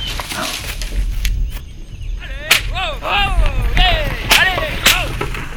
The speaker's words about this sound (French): Une carriole. Avec des chevaux. Oh. Des chevaux.